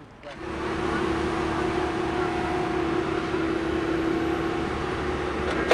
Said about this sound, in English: So my body is hugging this chain link fence along 66 as a large machinery is placing a brand new railroad tie underneath the rails in the stone bedding, and you can hear it clanging away. It's hot, it's noisy, its exhaust is blowing right on me.